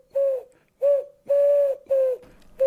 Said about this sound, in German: Huhu, ich bin die Taube vom Kopernikusplatz. Ja, Sie haben mich bestimmt schon mal gesehen.